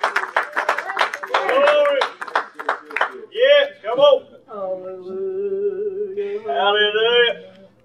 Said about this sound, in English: Give him a hand clap here tonight.